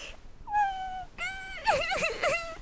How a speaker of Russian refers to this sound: Опять этот плач. И он исходит из твоей хижины, паук.